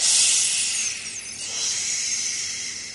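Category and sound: human body sound, hissing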